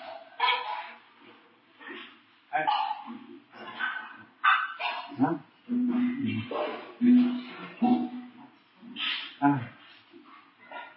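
A dog barks and yips repeatedly in short, irregular bursts, fairly loud, with brief pauses between the calls.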